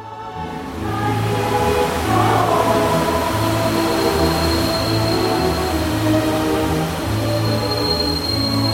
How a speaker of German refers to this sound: Sehr geehrte Reisende, wir erreichen jetzt den Nordpol. Der Ausstieg ist in Fahrtrichtung links. Bitte alle aussteigen, dieser Zug endet hier.